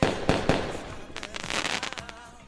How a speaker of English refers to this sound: This is the fireworks. The to the 4th of July show.